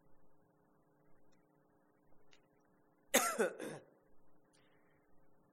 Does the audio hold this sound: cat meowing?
no